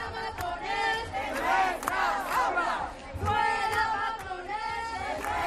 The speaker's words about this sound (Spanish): Este era uno de los gritos más repetidos en las manifestaciones, fuera matones de nuestras aulas.